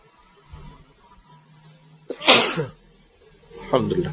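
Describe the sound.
A single sharp, explosive sneeze bursts out, preceded by a quick intake of breath, with faint murmuring voices before and a brief voiced sound afterward.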